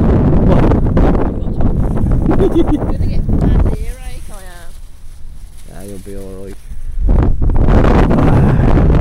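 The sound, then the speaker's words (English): Gale-force wind roars and buffets across the microphone in loud, rough gusts on a beach by the open sea, with a headland about 3 miles away, easing briefly while a man speaks a few words, then surging back to full force. “Absolutely blowing a gale, actually, and a bit later on we'll be able to hear it. Howling.”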